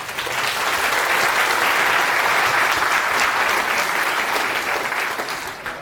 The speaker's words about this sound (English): So a round of applause